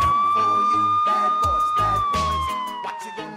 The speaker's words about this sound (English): which means there have been 3 decades of traffic stops, foot chases, drug busts, shirtless drunken ravings on porches, dazed suspects sitting on curbs, and a lot of sirens.